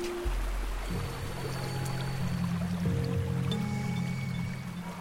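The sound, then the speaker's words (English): A river rushes steadily over rocks in the old gold mining town of Walhalla on a winter's morning, a continuous wash of water with a low droning hum underneath and no one speaking. “The river that I am standing in flows through a town called Walhalla.”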